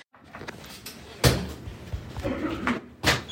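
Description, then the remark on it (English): A man tumbles over a flip-up seat that flipped up when he stood up: a loud wooden clatter and thump, followed by rustling shuffles and a second sharp knock a couple of seconds later. “happened to sit in the one that flipped up when he stood up, but he didn't realize that.”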